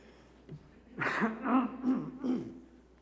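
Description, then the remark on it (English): A person coughs and clears their throat several times in quick succession, a series of rough, raspy bursts with no talking. “Excuse me, I've got to cough one more time.”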